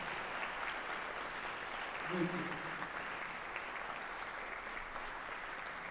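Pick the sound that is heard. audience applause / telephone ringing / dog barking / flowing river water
audience applause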